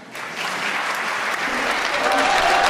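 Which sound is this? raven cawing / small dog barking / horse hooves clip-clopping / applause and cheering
applause and cheering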